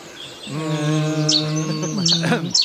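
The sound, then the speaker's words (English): A Cetti's warbler gives a few short, sharp bursts of loud song, heard over a steady, low droning tone that runs through most of the moment. “A pity that the bittern doesn't call quite as loudly as a Chetty's warbler.”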